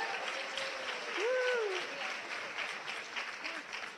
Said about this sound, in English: All we've given them so far is a very depressing conversation, and they're still applauding, so that's good.